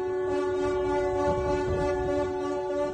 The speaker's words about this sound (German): Endlich, die Ever Given hat sich bewegt. Ein Erfolg, den die Schlepper um den Tanker im Suezkanal mit einem freudigen Hubkonzert begleitet haben.